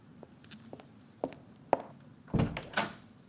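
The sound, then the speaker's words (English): A few soft footsteps and light clicks, then a louder clunk and rattling scrape as the front door of a home is unlatched and swung open, with no one talking. “Please, please just open the door, okay?”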